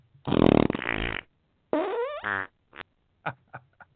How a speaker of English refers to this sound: Y'all know I had to do the fart sound. I think it's funny. I do it because I love every minute of it.